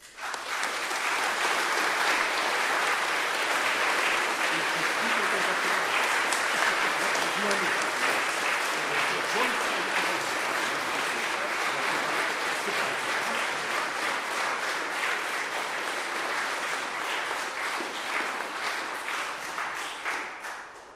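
Sustained applause from a sizable crowd at a church community gathering, honoring a long-time church warden, dense and steady for about twenty seconds, loud, with no talking over it, tapering only slightly at the end.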